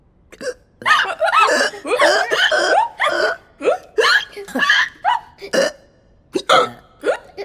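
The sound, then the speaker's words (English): A rapid string of short, voiced hiccups from several people, the chief of the guards, Pembridge and the queen among them, overlapping one another, fairly loud, with bits of laughter mixed in between the spasms. “Soon everyone is hiccuping.”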